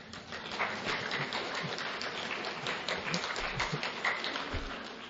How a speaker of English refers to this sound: Okay, that's a half-hearted clap, but you must be tired too.